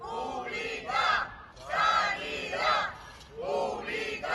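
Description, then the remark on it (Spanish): A large crowd of protesters in Pinto chants "sanidad pública" in unison, demanding an emergency doctor for the town. The loud, shouted phrases repeat in a steady rhythm about every second and a half, with brief dips between each call. “Al grito de sanidad pública y reclamando el derecho de los pinteños a tener médico de urgencias”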